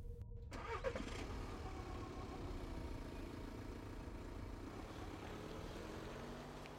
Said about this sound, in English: As soon as she was gone, I started up the engine and drove home.